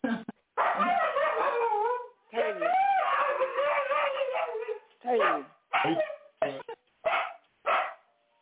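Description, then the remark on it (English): A dog vocalizes loudly, first with long, wavering howl-like whines, then with a string of about six short, sharp barks spaced roughly half a second apart. “Hey, and dog.”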